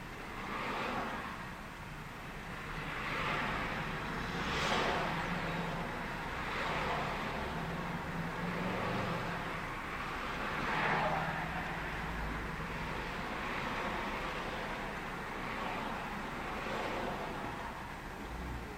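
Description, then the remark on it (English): Steady road noise with the broad whoosh of a car moving along, swelling and easing in a few soft waves over a continuous rumble, without any talking. “Driving past here.”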